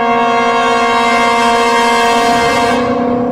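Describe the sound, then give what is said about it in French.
A loud, sustained boat horn blares as one steady, rich tone for about three seconds, echoing through the city of Venice among stone walls and water, with no talking, before tapering slightly at the end. “où il y a les murs, la pierre, l'eau, ou les différentes dynamisations dans la ville, pour laquelle, par exemple, les cloches ou les bruits des bateaux, tout cela, il vient à réverbérer avec des échos, avec des transformations comme continuer.”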